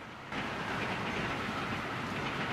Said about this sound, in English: Peter and Mohinder are traveling on the subway, standing in the middle of the carriage.